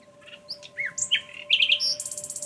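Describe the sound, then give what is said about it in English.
Birds chirping and singing in a lively, overlapping chorus of quick high tweets and warbled phrases, clear, ending in a rapid run of repeated notes. “Some people at least have learned to fly with the birds and sing with them.”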